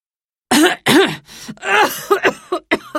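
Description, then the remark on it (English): A man coughs and clears his throat in a rapid series of harsh, voiced bursts, fairly loud, with a sputtering, choking quality after a moment of silence. He is coughing in a big cloud of dust that came out of a vacuum cleaner. “You silly boy, said the man, coughing.”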